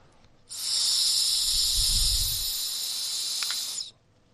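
blowing into a breathalyzer

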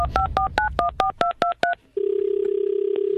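telephone number being dialed

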